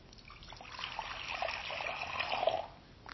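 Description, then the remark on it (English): Water trickles steadily over stones for about three seconds, a continuous bubbling with small splashes, fairly quiet and heard alone before it fades at the end. “In the wilderness, there is one thing to seek: water.”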